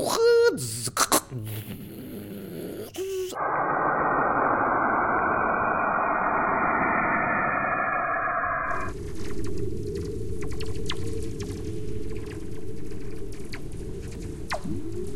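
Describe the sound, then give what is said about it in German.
Radio waves from space, sonified for the Beethoven project: a dense, rushing hiss with a wavering, muffled texture, shifting abruptly to brighter crackling static scattered with faint clicks, steady and loud throughout. “Die generelle Idee von dem Beethoven-Projekt ist, dass wir Radiowellen erstmal vertonen.”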